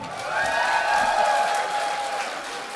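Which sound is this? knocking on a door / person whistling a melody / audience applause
audience applause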